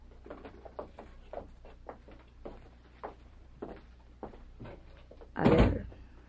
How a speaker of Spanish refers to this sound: Pueden ustedes retirarse y cerrar bien la puerta.